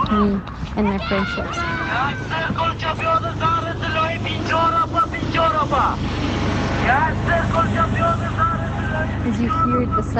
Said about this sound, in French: Là, vous entendez le son d'une moto.